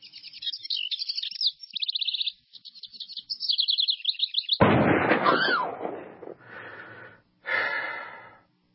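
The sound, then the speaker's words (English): Rapid, high-pitched chirping trills repeat for several seconds, then a loud, harsh burst and a few raspy calls follow. No one speaks. “Visitors come from all over Minnesota and the Midwest, and they enjoy looking at all the birds that are in that area.”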